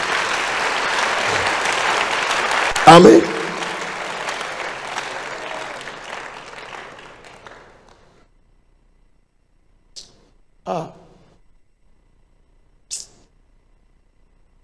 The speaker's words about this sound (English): Join those who are clapping for Jesus.